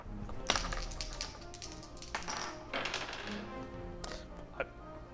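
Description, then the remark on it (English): Dice clatter across a hard tabletop in a few sharp bursts of clicks and taps, rolled in a tabletop role-playing game for a longsword attack, moderately loud, with quieter rattles between them and a faint background murmur. “I would like you to look at the dice, please.”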